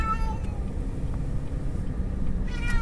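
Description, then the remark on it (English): A cat gives a couple of short meows, one at the start and another near the end, over a steady low rumbling background noise. “That's a normal meow right there.”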